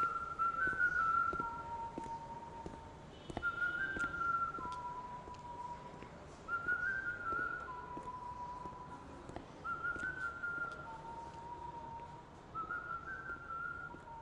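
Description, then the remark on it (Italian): A person whistles a bright, cheerful melody, the same short phrase repeating every few seconds at moderate volume over a faint background hum, with no talking. “Qualcuno mi guarda male perché sono allegro e fischietto.”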